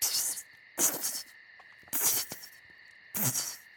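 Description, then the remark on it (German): A long snake hisses four times in short, breathy bursts spaced about a second apart, over a steady high-pitched insect-like drone in the background. “Und langen Schlangen.”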